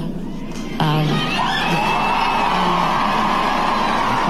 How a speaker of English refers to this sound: So I want to thank you all for your applause, for your donations, and I want to thank them for bringing me here.